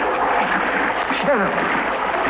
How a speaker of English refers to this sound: As, for instance, when he was trapped in a rapidly flooding burial vault in Society of the Living Dead.